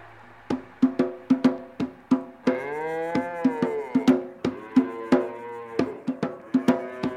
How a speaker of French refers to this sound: Meuh, meuh, les vaches se sont arrêtées. Meuh, meuh, pour regarder le train passer.